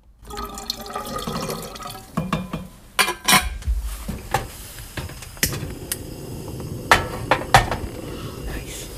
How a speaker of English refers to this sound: Nice. Kettle on. That's great, isn't it? Yeah. You need a hot tea if you're down the allotments in February.